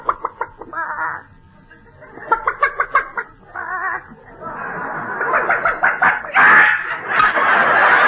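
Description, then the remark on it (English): A hen sitting on a nest clucks in quick, repeated bursts that grow busier and louder toward the end, a chattering run of short throaty notes with brief pauses between clusters. “Oh, Danny, look at the hen sitting on the nest.”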